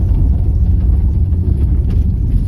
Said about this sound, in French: Alors si vous entendez un bref zonnement à l'intérieur de la voiture, c'est pas à cause de la voiture, c'est pas le moteur, c'est le chauffage, parce que j'ai dû mettre la ventilation.